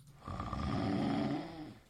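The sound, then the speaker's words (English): A single long, rumbling snore, swelling from quiet into a rough, raspy drone for over a second before trailing off. No talking. “And on that again, note, I think you like recorded me snoring or blacked out.”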